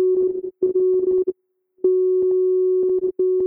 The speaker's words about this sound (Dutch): Dat ik de amplitude van een toontje moduleer maakt dat het als een morsebericht klinkt, maar dan van een dronken chimpansee die voor het eerst een morsesleutel bedient.